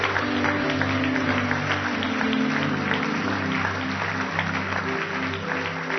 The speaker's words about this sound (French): On peut donner une bonne main d'applaudissement au Seigneur.